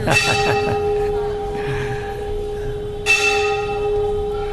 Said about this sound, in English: It's by hearing that bell we're becoming purified.